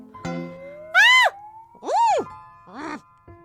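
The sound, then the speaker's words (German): A brown bear gives three loud, squealing screams, each sharply rising then falling in pitch, with a thin steady tone between the first two and a short grunt-like burst at the end. “Ein Braunbär schreit und schnaubt so.”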